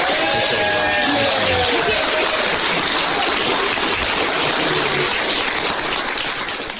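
A crowd claps steadily and loudly for a fundraiser for several seconds, a dense wash of hand claps, with a few whistles and cheers early on before it eases slightly at the end.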